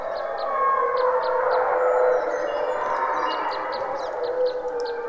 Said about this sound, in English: I was working in Algonquin Park in Ontario and I went out one morning and found a pack of wolves in front of me and a pack of wolves in back of me. Here's what they sound like.